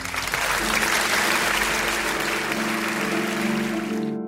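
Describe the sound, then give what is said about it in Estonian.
Steady, dense applause from a large audience at the opening of an Eesti Kontsert program on Kuku Raadio fills the whole stretch, loud, with a low sustained musical tone humming underneath before it cuts off at the end. “aplaus alustab”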